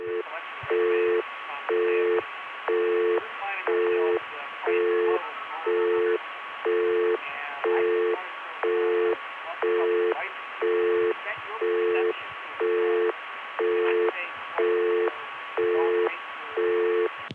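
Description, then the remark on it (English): A talkable busy signal from a Bell System 770 crossbar PBX pulses steadily at about one beat per second, with a phone left off the hook letting faint room noise and murmured talk bleed through beneath the tones, all with a thin, telephone-band quality. “Anytime you leave a phone off the hook in this type of PBX, everything that's said in the room gets broadcast over the busy signal.”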